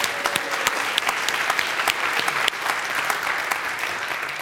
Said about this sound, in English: Beautiful Minnesota day. Let's applaud the day.